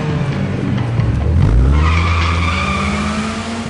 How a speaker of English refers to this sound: the music and the vroom vroom engine kicked in, that was the big entrance of Theron's Mini Cooper